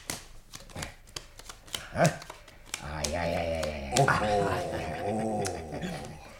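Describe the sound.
A rapid series of crisp snaps and flicks of playing cards being shuffled and dealt onto a table for a card game, followed by a low, drawn-out voice over faint continued card sounds.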